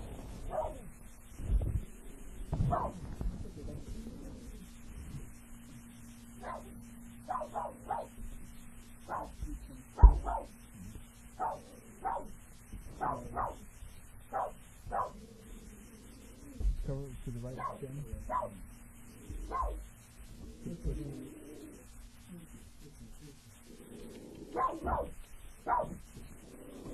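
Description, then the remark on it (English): A male puppy yips and barks repeatedly in short, high-pitched bursts, some sounding like whimpers, with a steady low hum underneath throughout. “It's okay, puppy.”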